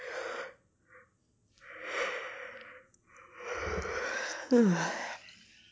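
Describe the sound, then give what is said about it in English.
Close, breathy inhales build into a long, drawn-out yawn, ending with a short voiced groan that dips and fades. No one speaks. “They start yawning. Contagious, right?”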